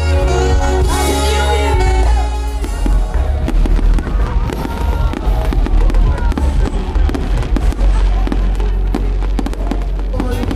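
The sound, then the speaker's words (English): Loud fireworks launched from a ship on the sea burst continuously just after the New Year midnight countdown, dense booms and crackles layered over each other with a deep rumbling low end, while voices murmur faintly underneath throughout. “There was a pause just before midnight for the New Year countdown, followed by the highlight, the majestic fireworks display from a ship on the sea.”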